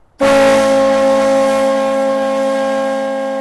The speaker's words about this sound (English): The new whistle is supposed to sound like a steamboat, and believe it or not, it's a lot quieter than the old one, only around 100 decibels, and it's now a safe distance away from downtown.